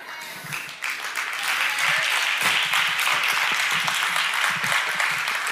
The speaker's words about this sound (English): You see that little pathetic clap? Yeah.